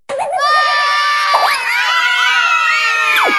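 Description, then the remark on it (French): A crowd at a competition where contestants throw or fly through the air screams and shouts together, high wavering voices overlapping in a loud, continuous din that stays intense for the whole few seconds, with some wailing cries rising and falling. “Crier et pleurer.”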